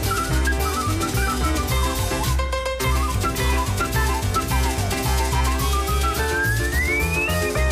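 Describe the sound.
A whistled melody rides over a loud, full band arrangement with steady bass and drums, ending in a long upward-gliding whistle note. No one speaks.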